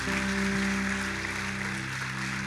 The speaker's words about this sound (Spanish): Démosle ahora ese fuerte aplauso al Señor que nos lleva a todas estas conquistas.